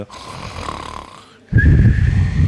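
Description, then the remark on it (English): A voice imitates loud snoring in two drawn-out rasping breaths, the second much louder and harsher than the first, alone with no talk. It imitates Trivikram Maharaj snoring with his head on the table. “And he's putting his head on the table and he's snoring so loudly.”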